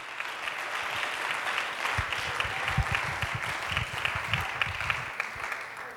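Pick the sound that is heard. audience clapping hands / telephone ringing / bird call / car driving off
audience clapping hands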